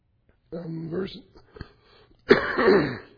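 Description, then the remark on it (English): A loud bout of throat clearing by a person reading Bible verses aloud, followed after a short pause by a harsher cough-like burst, with no speech between the sounds. “excuse me. It somebody has a cough drop, that would be helpful.”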